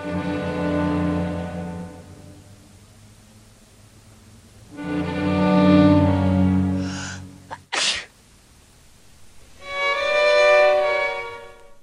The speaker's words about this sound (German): Ja, die Nieser und die Huster, sie sind der Todfeind der Pause.